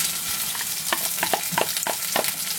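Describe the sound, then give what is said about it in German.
Onions sizzle in hot oil in a pot with a steady hiss and quick crackling pops, joined by a few scraping stir sounds, moderately loud with no talking. “Wenn er fast zischelt, ne, das ist Öl und Zwiebeln.”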